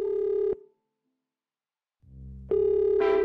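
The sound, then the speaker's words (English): A telephone line ringing as heard through the receiver on a long-distance call to Los Angeles: a steady electronic ring tone, a pause of silence, then a buzzy low ring blending into another tone. No one speaks. “It's ringing.”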